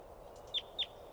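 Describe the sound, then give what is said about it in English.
A wild adult female bird chitters as it comes down: two sharp, high-pitched chirps about a quarter second apart, preceded by a couple of fainter notes, over a steady low background hiss. “That was a wild one chittering and coming down.”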